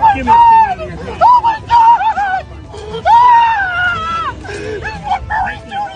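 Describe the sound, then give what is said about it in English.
A man screams in pain after being smacked in the face a couple of times with a bullhorn by a person in a pirate wolf furry costume: a series of loud, high, wavering wails in several bursts, each rising then sliding down, over a murmur of background crowd noise. “And the pirate wolf furry ends up smacking the guy in the face a couple times with a bullhorn, and this is the sound the guy who was attacked made.”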